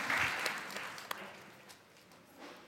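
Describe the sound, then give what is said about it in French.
An audience claps together, strongest at the start and then gradually thinning out and fading over a few seconds, with a few sharper claps standing out near the end. “On applaudit, oui.”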